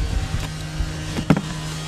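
Heavy machinery at an aircraft recycler cutting apart the fuselage of a Fokker F-100: a steady low mechanical drone with a few dull knocks and a sharper metallic crunch near the end. No one speaks.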